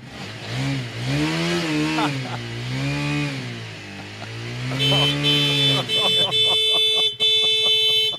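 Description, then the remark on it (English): A motorcycle parked right outside someone's door revs loudly, its engine pitch swelling up and down in several surges, then gives way to a steady, rapidly pulsing alarm-like tone. “He's got his motorcycle right outside his door.”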